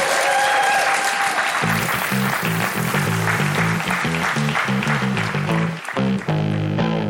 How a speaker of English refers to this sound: Can we have a warm round of applause, ladies and gentlemen, for Police Cops?